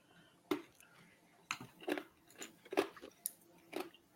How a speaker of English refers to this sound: I was chewing on ice. Sorry.